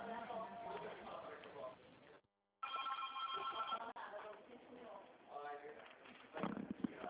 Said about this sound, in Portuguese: Não repara no barulho de telefone